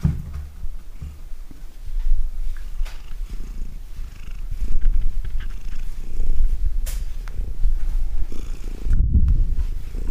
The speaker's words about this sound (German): Jetzt schnurrt die Mieze. Da schnurrt sie.